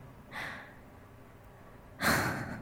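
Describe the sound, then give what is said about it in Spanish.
Two soft breaths with a pause between them, taken slowly to relax: a brief airy exhale, then a longer, fuller breath drawn in slowly, with no talking. “Respiremos juntos”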